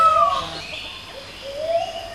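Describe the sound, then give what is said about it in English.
A male peacock honks in the background, giving two loud, wailing honks, one at the start and another rising cry near the end, with no talking. “But then a male peacock starts honking away in the background.”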